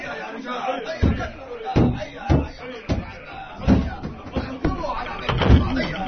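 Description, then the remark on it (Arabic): Horsemen batter in the door of the house of al-Rida with heavy, booming blows, around eight loud thuds landing at an uneven pace, while a crowd of agitated voices murmurs in the background. “أيها الفرسان، اهجموا على دار الرضا وحطموا الباب، ادخلوها بخيولكم.”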